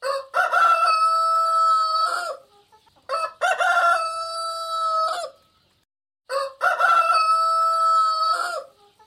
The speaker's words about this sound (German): Darauf kamen die 3 an einem Hof vorbei. Da saß auf dem Tor der Haushahn und krähte aus Leibeskräften.